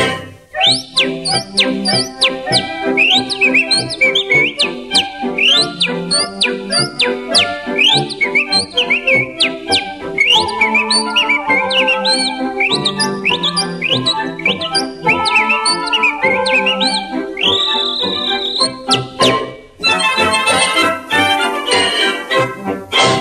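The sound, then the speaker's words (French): Loud whistling imitates birdsong in quick rising chirps and trills, repeated in a steady rhythm over busy instrumental accompaniment, shifting to a denser flurry near the end. “Aussi en passant sous les branches des arbres de nos beaux jardins, la semaine ainsi que les dimanches, je répète leur gai refrain, sifflant comme près des ormeaux, étant le copain des oiseaux.”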